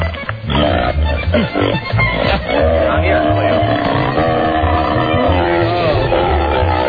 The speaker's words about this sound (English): Cleo the pig.